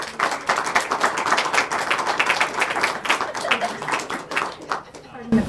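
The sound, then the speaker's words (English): An audience applauds a panel of speakers: dense, steady clapping from many hands that runs for several seconds at a fairly loud level, thinning out a little just before the end. “You should give a round of applause for our panel.”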